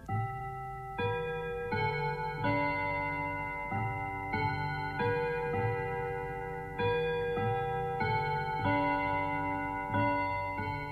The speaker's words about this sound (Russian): Часы стучат, часы звенят. Сказать, наверное, хотят: ваше время истекло, попрощайтесь с буквой «О».